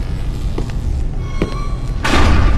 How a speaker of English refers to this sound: pushed against one of the tall doors with a shoulder.